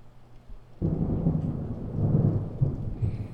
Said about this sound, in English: I know the thunder sounds scary. But it's moving away. So when you see the lightning flash, you count the seconds till you hear the boom.